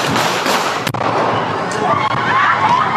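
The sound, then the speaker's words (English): A sharp, loud gunshot bang cracks out about a second in over dense outdoor crowd noise at a Black Lives Matter protest at the corner of 4th Street and Congress Avenue in downtown Austin on a Saturday night. A fainter pop follows later as the commotion continues. “A group bunched together at the corner of 4th Street and Congress when several gunshots rang out.”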